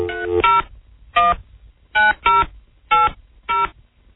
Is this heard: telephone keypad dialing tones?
yes